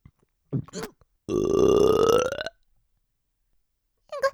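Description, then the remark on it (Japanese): A loud burp rumbles out for about a second, preceded by a brief vocal sound and followed by silence, then a short voice at the end. “ごめんね、急にゲップが出ちゃって。”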